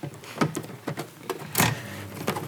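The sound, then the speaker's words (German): An electronic typewriter starts up after being plugged in, giving a run of sharp mechanical clicks and brief motorized whirs, with one louder buzzing rattle partway through. “So, jetzt macht sie schon Geräusche.”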